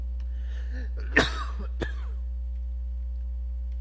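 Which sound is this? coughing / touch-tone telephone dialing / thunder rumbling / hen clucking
coughing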